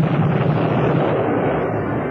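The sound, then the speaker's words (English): A loud, unbroken roar of rocket and bomb blasts merging with aircraft rumble as six low-flying RAF Mosquito fighter-bombers fly back and forth strafing SS troops with rockets, bombs and machine guns, dense and rough across the whole stretch with no pauses and no voices. “For 15 minutes, the six RAF Mosquitoes flew back and forth, strafing the SS troops with rockets, bombs, and machine guns.”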